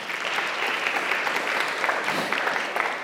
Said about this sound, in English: And boy, worship team, I don't know how many of you are in here right now, but what a presence that you brought us to. And so would you mind just giving them just a quick thank you and a clap as well?